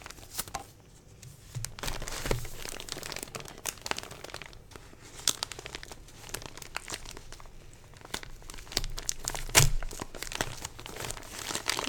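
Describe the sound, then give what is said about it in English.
Continuous crinkling and rustling of paper being handled slowly, with sharper crackles and a few louder crunches, as the wrapping paper is carefully peeled off a Christmas present. No one speaks. “I'm just going really carefully because I don't want to tear the paper.”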